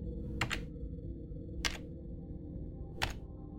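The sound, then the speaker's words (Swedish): Three slow, evenly spaced keystrokes on a computer keyboard at a desk, each a sharp click over a steady low background hum, with long pauses between them. “Kort därefter hördes långsamma men tydliga knapptryckningar på tangentbordet i datorn.”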